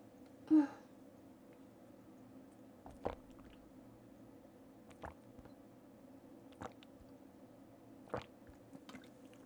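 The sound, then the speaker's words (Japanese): Quiet gulps of someone deliberately drinking water audibly, with separate swallows coming every second or two over a low background hiss, and no talking. “じゃあその前にお水飲みますね、また。”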